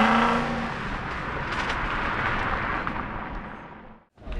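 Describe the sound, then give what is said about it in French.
A car engine roars loudly and steadily as the vehicle pulls away into the night, a dense rumbling drone that holds for several seconds before cutting off abruptly near the end. “Ils récupèrent leur veste, sortent des archives et repartent dans leur voiture en la faisant rugir dans la nuit.”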